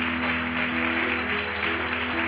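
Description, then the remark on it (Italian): An audience at a worship service applauds the Lord together in a dense, steady wash of clapping, with a faint low hum sustained underneath and no voices rising above it. “Diamo un forte applauso al Signore.”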